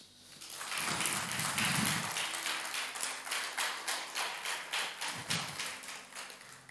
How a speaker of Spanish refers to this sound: Este aplauso me hizo emocionar y capaz que tomé un poquito más de 10 minutos.